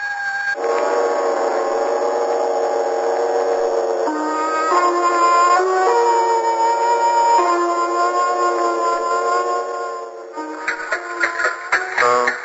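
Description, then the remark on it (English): Sirens of police on their way wail loudly and steadily with no voices, their harsh droning tones shifting pitch a few times before breaking into choppy, stuttering bursts at the end. “You hear those sirens? That's the police on their way here to make sure you keep that date at the death house.”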